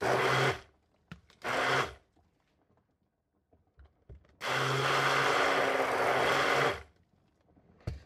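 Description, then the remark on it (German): An electric hand mixer quickly mixes the ingredients, whirring loudly in three bursts: two short pulses, a pause with faint clinking, then a longer steady run of about two seconds. No one speaks. “Und dann bleibt uns kann ich jetzt halt nicht sagen, ob man das normalerweise macht, aber ich mache es halt so, das Ganze halt jetzt nochmal schnell so ein bisschen vermischen mit dem Mixer.”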